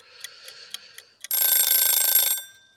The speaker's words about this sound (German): Wie lange ist dieser Timer eigentlich? 5 Sekunden. Unterschiedlich, je nachdem, wer gerade dran ist. Immer gleich lang.